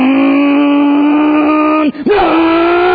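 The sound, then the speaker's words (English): A voice imitates a small gas-powered remote-controlled car engine, heard while camping by Defeated Creek: a loud, buzzy, steady drone that briefly dips and breaks off, then revs back up to the same whining pitch. “Little remote, gas-powered, remote-controlled car.”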